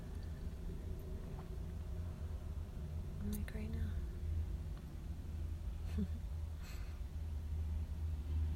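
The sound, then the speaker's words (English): A steady, low rumble of trucks rolling along a city street at night runs through the whole clip, heavy and droning beneath quiet whispered conversation. “There's so many trucks going by at all hours of the night.”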